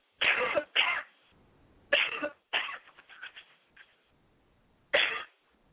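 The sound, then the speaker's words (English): A person with a cold coughs in harsh bursts: a quick pair, then two more followed by smaller throaty hacks, and after a pause one last cough, with no talking. “So if I cough, and I'm going to cough in just a minute or sneeze, excuse me.”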